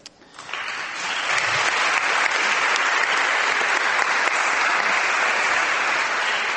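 An audience in Portugal applauds a Europe Day message from European Parliament President António Tajani, after a brief quiet start, the applause swelling quickly into a sustained, dense patter of many hands that holds at an even loudness to the end.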